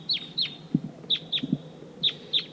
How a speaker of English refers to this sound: Stop. Start. Playback just stopped. That's the wild bird who started calling loud immediately after the playback stopped. Wild bird.